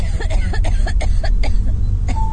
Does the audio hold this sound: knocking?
no